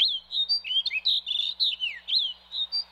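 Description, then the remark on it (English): A male snow bunting in the Arctic sings a lively, continuous song of high, sweet warbling phrases during his song flight from a rocky outcrop to attract a mate, quick rising and falling whistles that run together for several seconds, with no one speaking. “This male snow bunting repeats his song flight every few minutes in his quest to attract a mate.”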